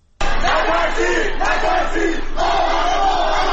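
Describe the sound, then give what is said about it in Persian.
A crowd gathered in residential areas of Qom on Wednesday evening chants the slogan "Don't be afraid, don't be afraid, we are all together" in unison, loud and steady, voices rising and falling in rhythmic phrases with a brief dip between repetitions. “در شهر قم هم شامگاه چهارشنبه افراد متعددی در محوطه‌های مسکونی شهر تجمع کرده و شعار نترسید نترسید ما همه با هم هستیم سر می‌دهند.”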